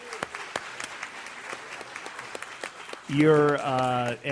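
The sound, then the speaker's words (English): An audience claps in a steady, scattered round of applause for about three seconds, thanking an Allstate representative, then a loud voice begins talking over the last of the clapping. “give Melissa a round of applause here”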